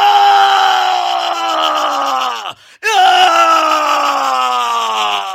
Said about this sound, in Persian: خدای من! و اون مدام داد میزد، مدام فریاد میزد.